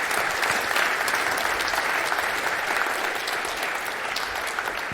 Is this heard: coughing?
no